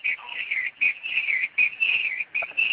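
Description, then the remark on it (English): Birds chirp and warble behind a caller on a phone call, in steady, high-pitched bursts separated by brief pauses, the sound thin and narrow like it's coming over a phone line. “Sound like you got birds in the back.”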